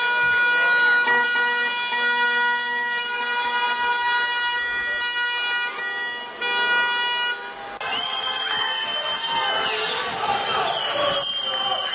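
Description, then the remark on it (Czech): Loud, sustained car horns blare together with a wailing siren in steady overlapping tones, while a cheering crowd and shouting voices swell underneath, growing noisier in the second half, as a column of cars blocks the main street of Sarajevo, Bosnia and Herzegovina, after news of Radovan Karadžić's arrest. “Kolona automobila zaustavila se i blokirala glavnu gradsku ulicu.”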